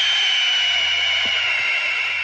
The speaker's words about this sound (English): It sounds like something springing a leak or air whistling. It was my G8's tire.